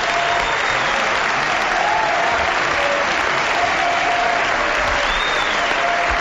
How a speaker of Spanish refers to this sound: No sé cómo se va Ferreiro, qué ovación el Lugo Ferreiro, escuchamos.